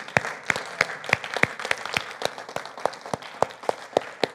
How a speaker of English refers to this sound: So Serve, can you stand up and give this church a big thank you round of applause?